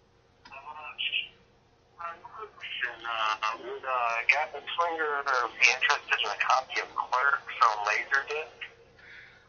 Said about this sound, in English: I'm getting a phone call on air. Oh my god! Hold on, I'm gonna take it. Put it on speaker. Hey, what's up?